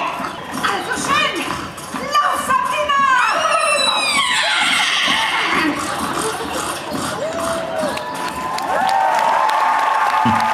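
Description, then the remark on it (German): A crowd claps steadily throughout, with cheering mixed in, while performers live on a stage imitate horse whinnies and neighing with rising and falling calls, fairly loud over the continuous applause. “Völlig zu Recht Applaus.”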